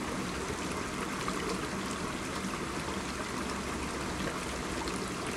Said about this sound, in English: I invite you to bring all your awareness to your sensations of hearing. Hearing the sounds of the flowing waters of the creek.